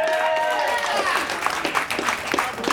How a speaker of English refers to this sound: Clap your hands for Jordan Dahl.